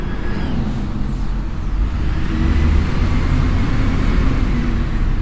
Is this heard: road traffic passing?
yes